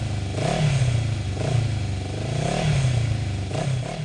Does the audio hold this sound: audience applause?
no